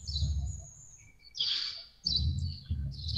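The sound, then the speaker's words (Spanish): Small birds chirp and twitter in bright, high bursts over a low, steady outdoor rumble in a park on a cool, humid, windy day, with a couple of louder calls breaking through. “Ahora, escucho que estás en un lugar con pajaritos y por ahí un búho.”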